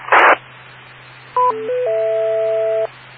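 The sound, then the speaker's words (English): A short burst of radio static, then a repeater's courtesy tones: a quick run of electronic beeps stepping between pitches, ending in a longer, steady two-note tone. Clear and fairly loud, with no talking. “Short of going in from something like EchoLink, because I don't think EchoLink gets all those courtesy tones, no.”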